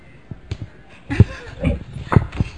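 dog barking

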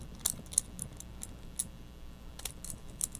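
keys jangling

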